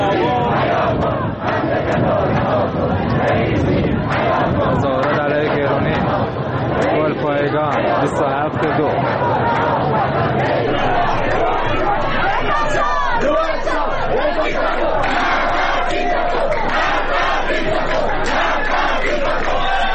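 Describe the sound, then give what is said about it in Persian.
A large crowd of protesters in Golpayegan, Isfahan province, Iran, chants slogans against officials of the Islamic Republic on Tuesday night, many voices shouting rhythmic phrases in unison over a constant loud roar of people, sustained throughout without pause. “ویدیوهای دریافتی از اعتراضات سه‌شنبه شب در گلپایگان حاکی از حضور گسترده مردم و شعارهای آنها علیه مقامهای جمهوری اسلامی بود.”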